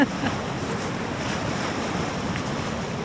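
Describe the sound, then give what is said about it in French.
A steady, broad roar of storm-swell surf with a low rumbling wash as an infragravity wave surges up the shore, the sea running 40–50 metres up very quickly, mixed with wind buffeting the microphone, continuous and fairly loud throughout. “là, il y a une vague qui va monter plus haut. Il faut qu'on recule.”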